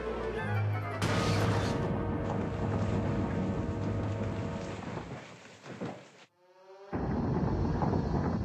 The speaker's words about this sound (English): Get out of here fast! The mine's collapsing!